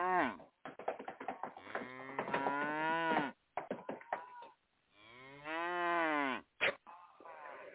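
Cows moo loudly in a cow stable at 3 a.m., with a few short choppy calls followed by two long, drawn-out moos that rise and fall in pitch, separated by brief pauses.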